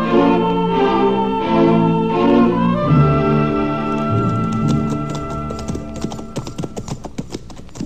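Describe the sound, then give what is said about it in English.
Hooves of ridden horses approaching a camp clip-clop in a steady rhythm, starting partway through and growing more distinct, playing beneath sustained orchestral music that fills the opening seconds on its own. “Let's leave the horses here, Chester, and walk into camp.”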